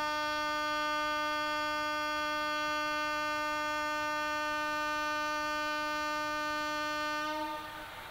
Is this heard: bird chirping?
no